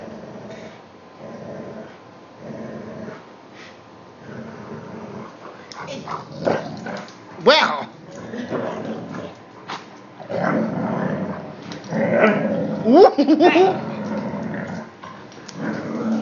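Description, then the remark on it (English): Two dogs, Cleavers and Noah, growl together in low, rumbling, overlapping bursts, with a few sharper yelps and whines mixed in; a person briefly speaks once. “Oh, they're both going right now. You can shake each other's heads off. They're unison growling.”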